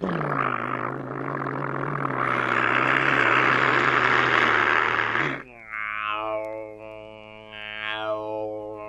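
A loud, steady airplane engine roar with a deep low hum fills the first five seconds as the plane takes off, then cuts to a wavering, tonal drone that rises and dips in pitch.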